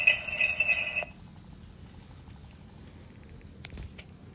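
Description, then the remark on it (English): A bright burst of jingle bells from a vintage toy answering-machine Christmas ornament hanging from a tree rings for about a second, then cuts off into low, muffled rumbling with one faint click near the end. “Wait for the jingle bells.”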